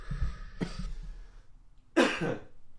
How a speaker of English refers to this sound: Right, that shocked me. That news shocked me that I had to cough.